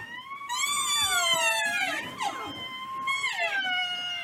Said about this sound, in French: Savez-vous qu'ils peuvent pleurer pendant 2 semaines parfois après la mort de leur mère? Et un rhinocéros qui pleure, ça donne ça.